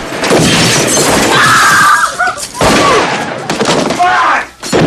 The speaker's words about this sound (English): Another mirror smashes.